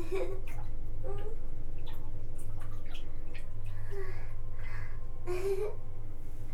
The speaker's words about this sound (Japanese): 今お水の音が鳴るくらい頑張って触ってる。